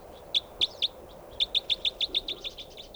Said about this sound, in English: There's a bird right above me here.